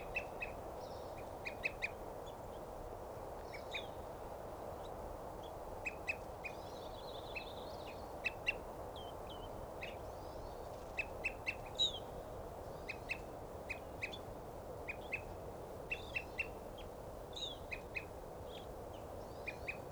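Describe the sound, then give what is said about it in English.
An evening grosbeak calls again and again in short, sharp, high chirps, scattered irregularly over a steady low background rush, with fainter bird notes mixed in. “And there's a evening grosbeak there.”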